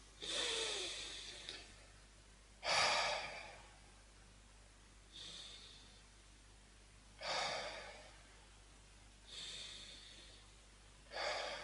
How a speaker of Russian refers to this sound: Сделать несколько глубоких вздохов.